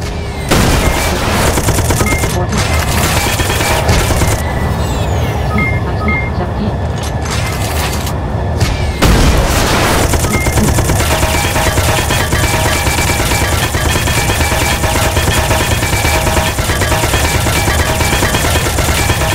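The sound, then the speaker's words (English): Loud, nearly nonstop machine gun fire from an aircraft in a video game dogfight, a dense, rapid rattle of shots that barely pauses, with one brief break partway through before the barrage resumes. “Weapons list, machine gun 19,217, attack 100, shoots in the current direction.”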